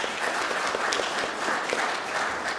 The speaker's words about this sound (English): That's incredible. Let's clap again, eh? Come on.